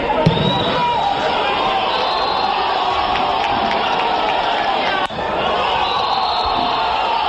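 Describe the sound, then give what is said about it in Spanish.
Loud, continuous shouting and cheering from a small group of Ibiza players and a couple of fans celebrating goals at Pasarón stadium, with overlapping excited voices, whoops and a sharp slap-like bang about five seconds in. “Así sonaban en Pasarón los goles, solo se oyen los gritos de los jugadores de Ibiza y de un par de aficionados.”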